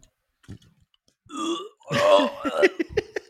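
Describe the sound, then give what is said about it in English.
A voice mimics gagging and retching as if reacting to a sip of Dasani water, a short strained heave followed by a louder, harsher, drawn-out gag with throaty croaks, like someone about to vomit. No words are spoken. “Like they're about to throw up from.”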